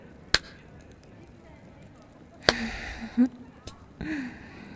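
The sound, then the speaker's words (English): Sharp slaps on skin, one person hitting another during sex, ring out a few times at uneven intervals, each a crisp smack. Faint voiced sounds murmur between them over a quiet background. “Whenever I slap you, I swear, I can feel your cock twitching inside of me.”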